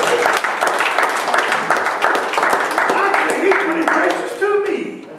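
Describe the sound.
A crowd breaks into sustained applause, dense rapid clapping at a steady loud level for several seconds, with a few cheers and voices rising through it near the end.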